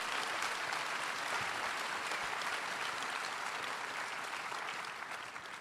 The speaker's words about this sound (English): Can we get a big round of applause